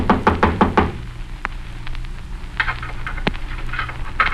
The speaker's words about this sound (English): Someone knocked.